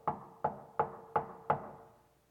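Five firm, evenly spaced knocks on a door, each with a short hollow ring that fades before the next. The steady rhythm stops after the fifth knock, with no voices.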